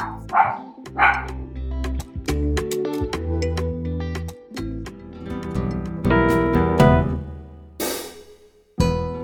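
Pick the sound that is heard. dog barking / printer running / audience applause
dog barking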